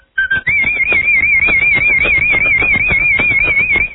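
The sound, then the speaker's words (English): A person whistles a fanfare as one loud, high, warbling note, stepping up once near the start and then held steadily for several seconds over a quick, regular tapping beat. “Can you whistle a fanfare for us?”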